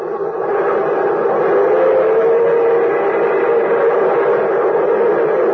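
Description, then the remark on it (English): A streamlined steam locomotive, the Milwaukee Railroad's orange and silver Hiawatha on the fast Chicago to Minneapolis run, roars past in a loud, steady wash of rumbling noise, with a faint sustained tone rising out of the din midway through. No one speaks. “There goes the Milwaukee Railroad's new great streamlined locomotive.”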